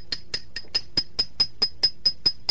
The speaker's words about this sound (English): Here's a 20-penny spike, 50-cent hammer, and a no-sense head. I'm going to drive a spike in my head.